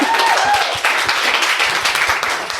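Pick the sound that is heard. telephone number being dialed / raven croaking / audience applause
audience applause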